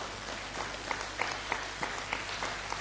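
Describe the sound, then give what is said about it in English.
Sparse, scattered clapping from about five people, individual claps spaced unevenly, with no one speaking. “Well, for the five people that clapped, God bless you all.”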